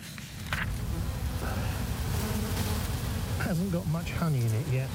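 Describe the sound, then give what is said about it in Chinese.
A steady, dense drone of many honeybees buzzing around a hive of a London beekeeper, fitted with probes for humidity, temperature and sound, continuous, with a voice starting to talk over the swarm near the end. “正在进行一项独特的实验，从世界各地的蜜蜂那里收集信息。”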